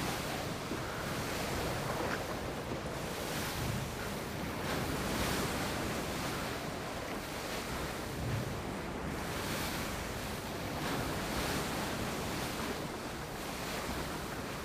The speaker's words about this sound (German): Leichte Gischt spritzt auf, wenn sich das große weiße Segelschiff im Wasser behäbig auf- und niedersenkt.